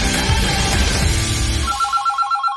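A telephone rings with a bright, warbling electronic trill, repeating in quick pulses before a phone interview call, as a dense, loud noisy wash of music or ambience drops away beneath it.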